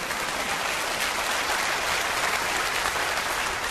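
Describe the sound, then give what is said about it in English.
A large group claps steadily for several seconds during a sermon, a dense, even wash of applause without pause or individual voices standing out. “Does this get even an amen? Or a clap or something?”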